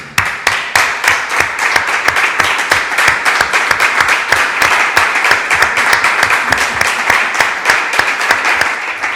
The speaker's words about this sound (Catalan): Es mereix un aplaudiment, això, eh?